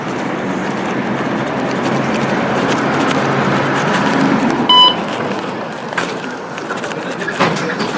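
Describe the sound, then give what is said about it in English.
An F-line streetcar, car 1079 built in 1946, rumbles and rattles steadily in downtown San Francisco on 20 February 2013, with a short electronic beep partway through and scattered clicks and clunks as it stops for boarding for a ride to Fisherman's Wharf. “We are about to catch an F-line streetcar down to Fisherman's Wharf.”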